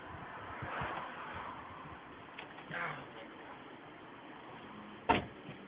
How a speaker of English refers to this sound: Just let me get inside my car.